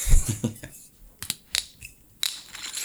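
The screw cap of a bottle of Starborough Marlborough Sauvignon Blanc twisted open: a few crisp, irregular metallic clicks and cracks as the seal breaks, after a short burst of low handling noise.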